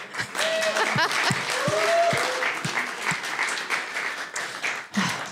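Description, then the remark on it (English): An audience claps steadily to thank girls who helped with an illustration, a dense, sustained wash of applause, with scattered whoops and a few sharper individual claps cutting through the crowd noise. “That's not a valley clap.”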